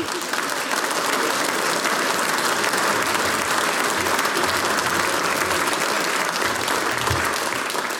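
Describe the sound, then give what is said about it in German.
Sustained audience applause for the brass band EPP, a dense, steady wash of many hands clapping at even loudness for the whole stretch, with no voices standing out. “Applaus für die EPP.”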